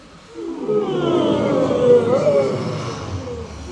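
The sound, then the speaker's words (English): A group of people yawn loudly together as part of a group vocal warm-up, a long, drawn-out chorus of overlapping breathy, groaning voices that swells, holds for about three seconds, then slowly fades. “And a nice big yawn.”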